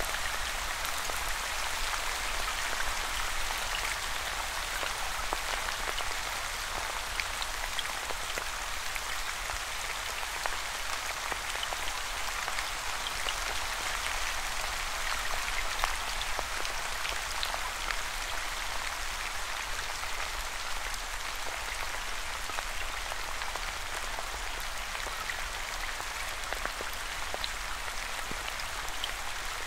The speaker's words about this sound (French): Les gouttes de pluie continuent de tomber à leur rythme, sans effort. Avec constance,